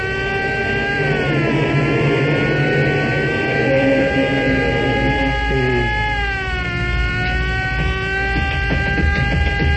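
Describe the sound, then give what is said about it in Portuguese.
A loud car engine roars steadily, its pitch dipping and climbing as it revs, then holding a strong drone as the car pulls away in an escape from a penitentiary. “Dentro do carro, ligeiro”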